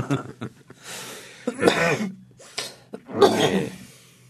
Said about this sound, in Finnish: Jos kuulitte, niin yskäisin äsken. Mä luulen, että koko Suomi kuuli sen. Haluaisin korostaa, että se oli epädramaturginen yskäys.